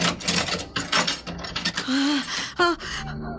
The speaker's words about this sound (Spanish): De pronto, la puerta de la barraca se abre violentamente.